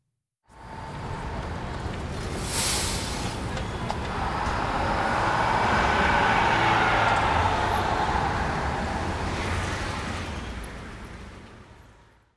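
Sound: bus driving in traffic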